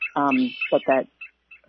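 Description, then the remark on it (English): A bird gives its nasal, quacking song: three loud, harsh notes in quick succession, followed by a couple of faint, clipped notes, clear with no talking. “Its song is a little bit more like, you know, quack quack quack quack quack.”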